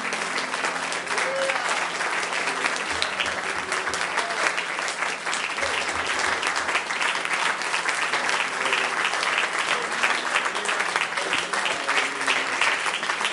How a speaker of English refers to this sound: Amen. Amen. Let's just give him a hand clap of praise tonight.